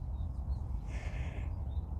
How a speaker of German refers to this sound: Jetzt darfst du noch mal eine kurze Runde auf diese Vögel hören.